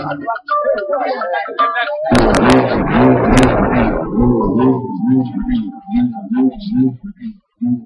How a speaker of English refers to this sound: The hum of the bull roar is believed to be the voice of the sacred star. It calls initiates to a ceremony high in the cliffs.